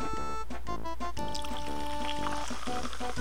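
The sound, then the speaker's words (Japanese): A fizzy lemon-flavored drink containing citric acid is poured into a glass from a high position, a steady liquid stream with bubbly crackle and a rising tone as the glass fills, fairly loud, with no talking. “あんたよ、こんげなもんはよ、高い位置から継がないよ。”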